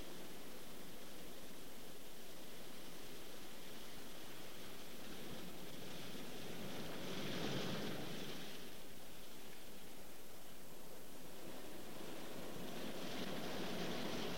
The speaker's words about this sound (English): A scenic, tree-lined, craggy coast. The clear blue water breaks into white-crested waves that roll into beaches and ragged cliffs.